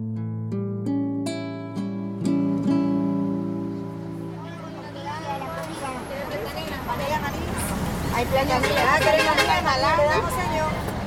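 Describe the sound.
A steady low engine drone with a few clicks gives way to a busy murmur of many overlapping voices chattering, as passengers board a bus in El Salvador at 3 a.m. and vendors walk up and down it selling snacks and water.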